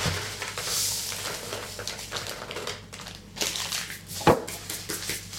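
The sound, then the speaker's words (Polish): Vanilla sugar is poured from two small paper packets into regular sugar: a steady dry crinkling and granular hiss for several seconds, with one sharper crackle near the end and no talking. “Ja do tego cukru zwykłego dosypuję te dwa waniliowe.”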